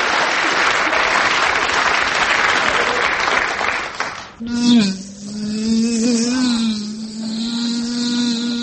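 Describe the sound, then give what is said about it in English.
A few seconds of applause give way to a loud, steady buzzing like a wasp, wavering slightly in pitch as it drones on, apparently a voice imitating the insect. “Ow, I'll kill that bloody wasp.”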